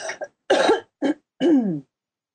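A short run of harsh coughs, three quick bursts with brief gaps, ending in a longer, rough throat-clearing rasp that trails off into silence.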